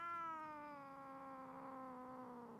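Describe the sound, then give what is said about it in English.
A single long, drawn-out, loud meow from a cat that has just been given a sedative shot. It holds a steady wailing pitch that sags slightly before cutting off. No one talks over it. “So did you just give a shot to a cat there?”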